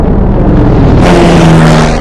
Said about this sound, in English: Her lips part, and she turns to find the shadow of an airplane passing over the sand. The airplane flies overhead.